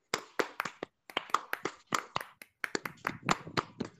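A rhythmic scout clapping pattern: crisp, loud hand claps in quick bursts separated by brief pauses, repeating in a set sequence with no talking over them.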